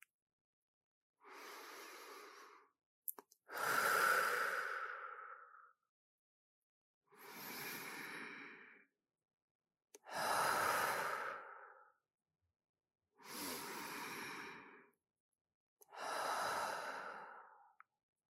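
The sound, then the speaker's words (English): Three slow, deep breaths drawn in and let out, six long airy rushes in a steady alternating rhythm, clear with silence between them. “And now, take 3 deep breaths to let out any tension from the day.”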